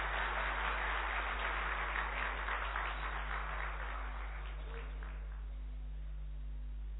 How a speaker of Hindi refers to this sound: हम वेलकम करेंगे उनका तालियां बजाकर।